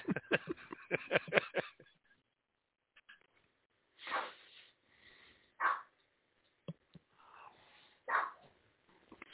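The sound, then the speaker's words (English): A dog named Holly barks: a rapid flurry of short, sharp yips at the start, then three or four separate, fuller barks spaced a second or two apart, moderately loud with no talking. “Holly is barking in the background, by the way.”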